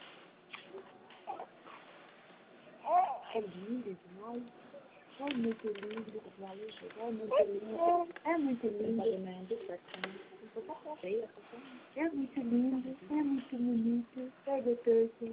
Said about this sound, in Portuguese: Tem um bebê aí? Tem.